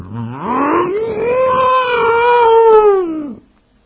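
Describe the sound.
A person imitates a wolf howl: one long, sustained cry that rises from a low pitch, holds a steady wavering tone for about three seconds, then drops off abruptly. Loud and alone, with no other sounds.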